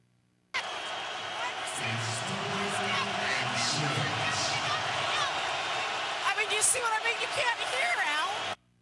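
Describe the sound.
A dense, steady roar of stadium crowd noise fills the whole clip, a broad wash of many voices with surging swells and a few sharper cheers or whistles rising near the end.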